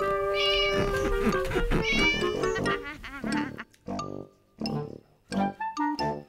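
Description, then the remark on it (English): A black cat, Wilbur, meows repeatedly, a run of loud, drawn-out, wavering cries followed by shorter, choppier mews with brief pauses between them. “Winnie lived in her black house with her cat Wilbur.”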